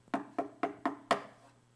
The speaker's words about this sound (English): Every single night for 2 years, knock, knock, knock, knock, knock.